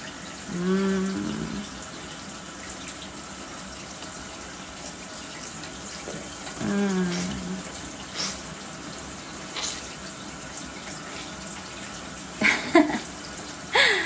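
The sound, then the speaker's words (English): Warm water runs steadily from a tap in a continuous hiss. Two brief low vocal sounds break through near the start and middle, and a few sharp clicks come near the end. “Yeah, it's warm because the water is warm.”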